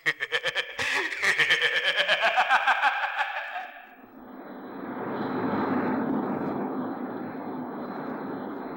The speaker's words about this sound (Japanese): おお、あれはクエスト博士のジェット機だな。 はい、円盤のことを報告したら飛んでこられました。